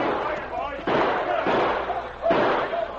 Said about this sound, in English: But suddenly they heard shots behind them.